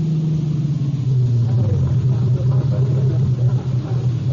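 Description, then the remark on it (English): A car engine rumbles steadily, its low drone dipping slightly in pitch as the car slows and pulls up in front of a bar in Upper Manhattan a little past 9, with no voices over it. “It was a little past 9 when I pulled up in front of the bar.”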